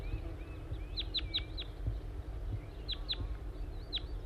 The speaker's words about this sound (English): I think I hear a wild bird again. Stop. Yes, I see a wild crossbill. It appears to be a small race male. And another bird with it.